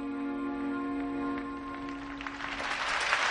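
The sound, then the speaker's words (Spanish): A stadium crowd at Real Madrid's Bernabéu stands and breaks into an ovation in tribute to Paco Gento. The applause swells from a low, steady hum into a dense, loud wash of clapping over the last second or so, with no talking. “Rompe el Bernabéu con una ovación para dar, no el último, porque nunca será el último, recuerdo a Paco Gento, Arantxa.”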